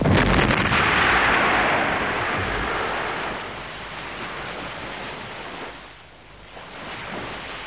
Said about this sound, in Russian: Вас немножко оглушило взрывом, но это ничего.